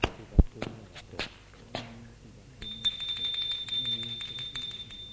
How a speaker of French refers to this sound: Il monte jusqu'au troisième. Et va sonner à la porte.